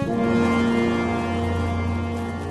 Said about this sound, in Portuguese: Ele tocou uma corneta feita de chifre de carneiro, e os homens do grupo de famílias de Abiezer foram juntar-se a ele.